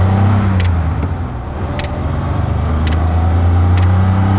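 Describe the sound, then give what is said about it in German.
A loud, steady rally car engine roar fills the cabin, deep and droning with a rough rumble, while a few short sharp clicks from the trip distance counter on the dashboard tick at intervals over it. No one speaks. “Der Motor röhrt, ist laut und ich spüre und höre richtig, wie der Wagen arbeitet.”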